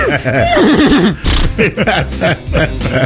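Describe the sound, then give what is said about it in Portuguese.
A person imitates a horse's neigh with a loud, quavering whinny that wobbles up and down in pitch, followed by shorter vocal bursts trailing off. “E já deu uma relinchada pra ela também, né?”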